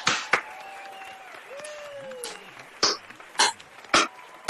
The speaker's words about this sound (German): Muss man mal kurz einen Applaus für uns, ne? Also hier, komm.